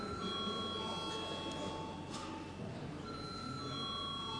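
A continuous electric voting bell rings steadily for several seconds in the Latvian parliament before deputies vote on a bill in its second and final reading, a bright sustained ringing tone over a low murmur of background voices.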